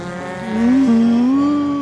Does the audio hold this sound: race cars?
yes